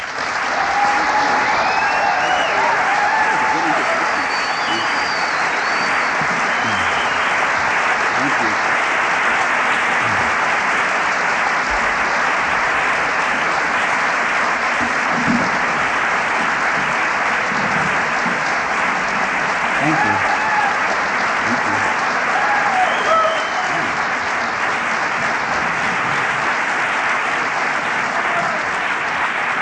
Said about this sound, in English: Thank you. That was so nice. Sometimes it gets embarrassing when the applause are longer before the talk than after the talk.